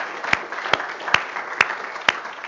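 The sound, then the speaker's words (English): An audience applauding during a church sermon: a steady wash of many hands clapping together, with a few louder, sharper claps standing out at a regular beat over the crowd's sound. “I think we can applaud God for that.”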